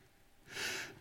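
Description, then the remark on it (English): A single soft exhale blown onto a microphone as a speaker breathes on the listeners, a breathy hiss that swells for about half a second and fades, with no talking. “Listen, guys, here it is. I'm breathing on you now.”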